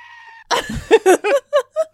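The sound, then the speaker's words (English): A goat screams in a run of loud, harsh bleating bursts, about six rapid pulses that tail off, preceded by a faint steady hum. “Or last time was the goat scream.”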